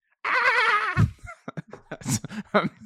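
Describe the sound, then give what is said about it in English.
A person imitates a dolphin with a high, wavering squeal that trembles rapidly for under a second, followed by short choppy bursts of voices. “Can you do a dolphin sound for us?”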